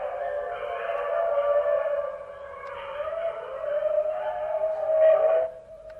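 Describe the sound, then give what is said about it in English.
A chorus of many wolves howling together, overlapping long wavering cries rising and falling for several seconds, fairly loud and steady before fading at the end, with no talking. “Now, those are a lot of wolves singing together.”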